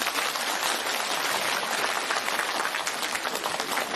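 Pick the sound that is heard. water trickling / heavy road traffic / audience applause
audience applause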